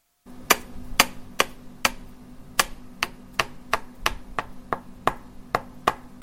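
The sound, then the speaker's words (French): A young man holding a hammer in his right hand strikes a nail into wood again and again while building a pirogue on the bank of the Niger River, about fourteen sharp knocks in a steady, slightly uneven rhythm over a low background hum, with no one speaking. “Marteau dans sa main droite, les manches de sa chemise blanche retroussée, le jeune Salifou tape sur un clou”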